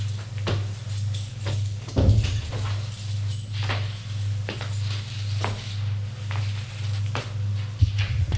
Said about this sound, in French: Et deux grandes portes battantes qui donnent dans le bureau. Il ouvre la porte, entre. Il entre.